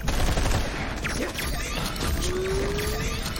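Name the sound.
gunfire burst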